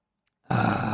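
After a moment of silence, a loud gulping swallow of water erupts as a person takes a drink of water for a dry throat, carrying on for about half a second, throaty and rough, with no talking.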